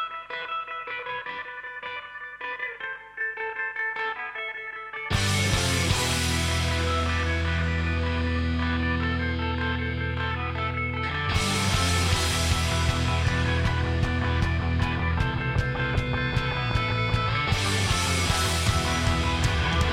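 A hard rock song plays loudly, opening with a few seconds of sparser guitar before the full band crashes in with pounding drums and thick, distorted guitars that drive on steadily.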